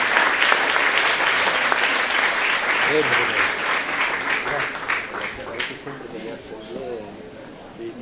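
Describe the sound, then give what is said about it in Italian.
Sustained crowd applause in thanks to Bishop Elio and Bishop Francesco, a dense crackle of many hands clapping steadily, gradually thinning out toward the end as a voice begins speaking over it. “Grazie al Vescovo Elio, al Vescovo Francesco, possiamo fare un applauso.”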